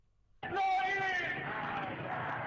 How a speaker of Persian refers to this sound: از تخار تا غزه فریاد مردمی که برای مسلمانان بی‌دفاع فلسطین به صدا در آمده است.